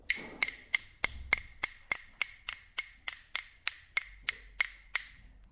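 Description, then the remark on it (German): A woodpecker hammering with its pointed beak on a rotten tree stump, searching for bark beetles: around seventeen sharp, hollow knocks in a steady, fairly even rhythm, each crisp and bright, repeating alone without voices. “Dröhnte und hämmerte in dem bisher so ruhigen Baumstumpf, den ein Specht hatte den morschen Baumstumpf entdeckt und hämmerte mit seinem spitzen Schnabel auf der Suche nach Borkenkäfern darin herum.”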